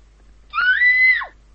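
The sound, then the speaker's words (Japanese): A single woman's scream, sharp and high-pitched, held for nearly a second before trailing off with a falling pitch; it is loud, with silence around it. “しばらくすると女性の悲鳴が聞こえた。”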